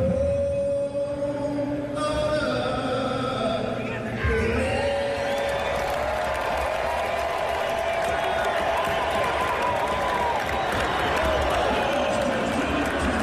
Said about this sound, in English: Do you hear the whole crowd go, oh, but he is doing okay.